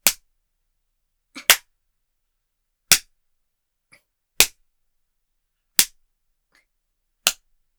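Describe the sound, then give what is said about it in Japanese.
Six sharp, loud spanking smacks land at a steady, unhurried pace about a second and a half apart, one preceded by a softer tap, with silence and no voices between the strikes. “百叩きじゃ終わりませんからね。”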